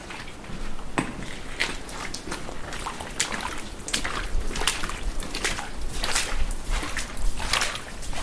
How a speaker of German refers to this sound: So, da gehen wir jetzt zusammen hin. Ihr hört es. Durchs Wasser.